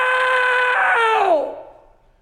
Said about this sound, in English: You let out one last scream, no!